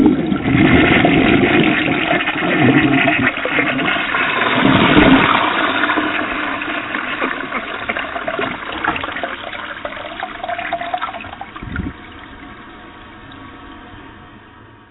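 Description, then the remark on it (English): A toilet flushes loudly, a sustained rush of swirling water that gradually tapers into gurgling and refilling over about fifteen seconds, with no voices. “I'm going to flush you all out”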